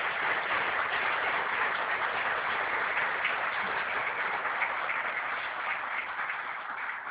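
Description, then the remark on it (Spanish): Sustained audience applause in Nicaragua for a young poet from Chinandega, author of the poetry collection Ahora resulta, a dense, even wash of many hands clapping that holds steady for about seven seconds and eases slightly at the end, with no voices. “Un aplauso.”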